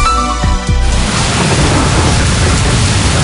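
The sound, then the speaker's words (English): Heavy rain with thunder pours down in a dense, steady roar with a deep rumbling undertone, loud. A brief tonal sound fades out in the first second before the downpour takes over. “Don't wait for the rain to start bucketing down.”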